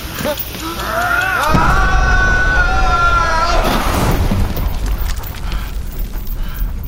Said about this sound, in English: Behold! It's dynamite! The blast will incinerate the room. I'd estimate we have 10 seconds until it detonates.